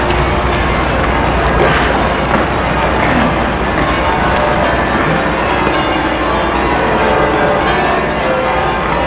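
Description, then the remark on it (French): Church bells of a large, castle-like church ring loudly and continuously, their overlapping peals blending into a dense, clanging wash over a deep rumbling hum, with no voices. “Et puis le bruit des cloches lui dit que c'est une église.”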